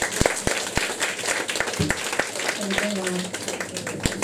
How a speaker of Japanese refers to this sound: もう一度二人に拍手をお願いいたします。